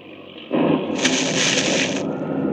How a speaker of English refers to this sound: Great heavens, lightning. Bolt of lightning struck the plane. It's smashed to pieces, on fire.